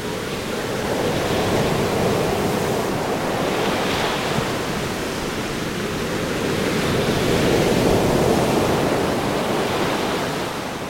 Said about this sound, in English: When it gets dark, we'll sit in the car and listen to the sea.